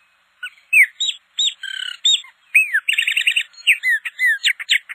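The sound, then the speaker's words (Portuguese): A chopi blackbird (Gnorimopsar chopi) sings, a rich, varied song of whistled slurs, rapid trilled bursts and sharp chirps delivered in quick succession with brief pauses, clear and unaccompanied. “Um bom exemplo disto é a espécie Gnorimopsa chope, muito popular pelo seu agradável canto.”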